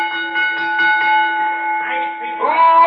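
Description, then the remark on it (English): A boxing ring bell is struck before a match, clanging in a quick series of strikes, its bright metallic tone ringing on steadily and fairly loud, with some faint background noise toward the end. “Bell me.”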